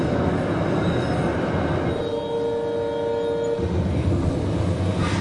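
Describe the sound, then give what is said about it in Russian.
A steady, loud rumble of a moving suburban electric commuter train heard from inside the carriage, with a brief high metallic whine rising over the roar midway. No one speaks. “Потом сел в электричку и сейчас начнет смеяться.”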